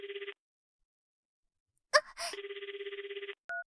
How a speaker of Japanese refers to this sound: あ、電話、ちょっと待ってて。